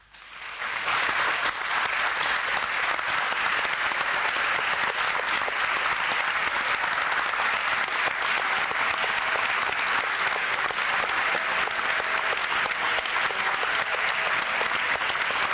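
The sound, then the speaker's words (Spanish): Sustained applause from a theatre audience after a play, with coughs and candy-wrapper rustling: a dense, steady wash of many hands clapping that starts almost at once and holds at an even, fairly loud level for about fifteen seconds, with no voices. “si te parece, escuchemos la respuesta del público con toses y ruido de envoltorios de caramelos incluidos.”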